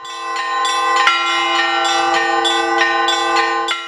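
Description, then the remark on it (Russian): Church bells ring in a joyful, lively, overlapping peal on 7 April for the feast of the Annunciation, with strikes every half second or so over a steady, resonant hum. The bells are loud, and no one speaks. “7 апреля радостный звон колоколов возвестил приход Благовещения Пресвятой Богородицы.”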